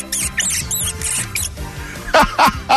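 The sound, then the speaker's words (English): On The Anthony Gargano Show on 97.5 The Fanatic, a voice does a mouse call at the mention of JJ Redick, a run of high, shrill squeaks ending in three louder squeals in quick succession. “Just the mention of JJ Redick gets … on the mouse call.”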